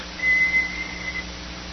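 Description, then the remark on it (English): An electric teapot whistles as steam and vapor escape through a little channel: a thin, high, steady tone lasting about a second, with a couple of brief breaks before it trails off. No one speaks. “The molecules start just, and all of a sudden the steam and the vapor starts coming. It goes through this little channel and goes.”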